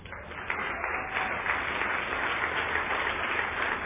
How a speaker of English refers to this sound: Then we're all going to be around for the 52nd birthday. A round of applause for yourself.